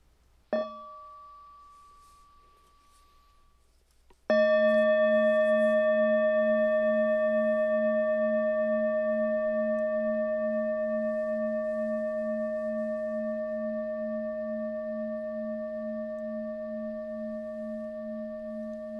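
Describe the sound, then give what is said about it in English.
A mindfulness bell is struck lightly once, then struck firmly a few seconds later, its clear metallic tone ringing out and slowly fading over a long, steady sustain with no voices. “That's where the bell of mindfulness comes in.”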